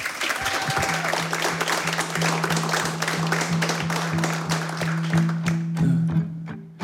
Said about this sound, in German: bevor es losgeht, würde ich Sie, liebes Publikum, nochmal um einen ganz, ganz herzlichen Applaus bitten